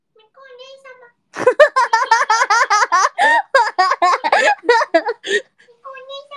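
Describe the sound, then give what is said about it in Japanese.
A person imitates a cat's meow: a soft mew, then a rapid, loud run of high, wavering meow-like cries, ending with another quiet mew. “もう声完コピできるようになった。”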